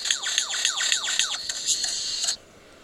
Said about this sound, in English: He sounds like a car alarm. It's the same bird. Oh, wow. He's just going for it. What the heck? The bird is making that noise.